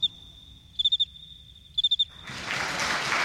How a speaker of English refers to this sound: The cricket raises his front wings and, with a movement called stridulating, rubs the two wings together. The scraper of one strokes the file of the other,